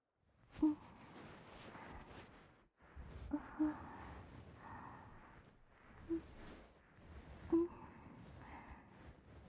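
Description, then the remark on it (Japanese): Intimate rustling and soft brushing inside an ear from the soft side of a bonten fluffy ear pick tickling around as a finishing step of ASMR ear cleaning, a steady scratchy swish broken by a few brief louder bumps, with no talking. “ほーら、入っていきます。中をこしょこしょくすぐるの。”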